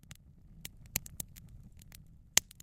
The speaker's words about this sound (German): Ich gebe das in einen Stoffbeutel und drücke das ganz langsam, auch wiederum relativ nah am Mikrofon, dann entsteht dieses Knistern.